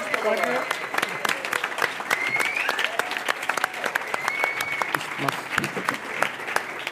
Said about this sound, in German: Applaus.